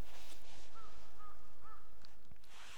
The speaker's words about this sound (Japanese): カラスがいいタイミングでカーカー言ってますね。